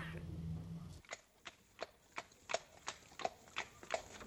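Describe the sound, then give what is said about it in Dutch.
Steady clip-clop of horse hooves pulling a coach, a regular sharp rhythm of about a dozen strikes, preceded by a brief low rumble at the start; no one speaks. “Ik neem een hupflesje mee en zal ik jou leren de koets te besturen.”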